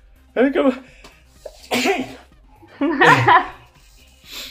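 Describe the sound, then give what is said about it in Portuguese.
A loud sneeze bursts out amid short voiced breaths and vocal sounds, followed by a softer breathy exhale as things settle. “Foi o primeiro espirro do podcast, eu acho.”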